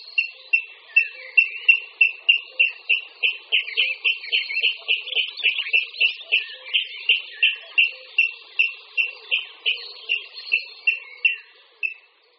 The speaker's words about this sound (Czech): Příště, až půjdete v jarním období okolo rybníka či zarostlé říčky, poslouchejte pozorně. Možná zaslechnete nezaměnitelný hlas Křástala vodního.